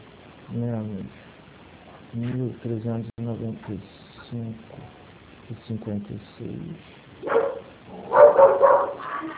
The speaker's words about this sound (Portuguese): Desculpa o latido, tá? Que eu tô home office e sabe como é que é a vizinha.